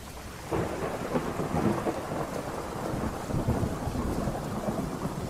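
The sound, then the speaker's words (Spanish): Heavy rain pours steadily onto rooftops in Veracruz in a dense, continuous wash, with a low rumble of thunder rolling underneath throughout. “El sonido de la lluvia golpeando los tejados de Veracruz era una sinfonía constante que me acompañaba en las noches solitarias en el Instituto Forense.”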